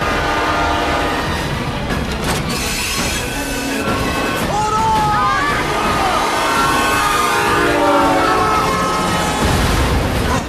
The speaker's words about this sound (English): The train driver tries to slow down.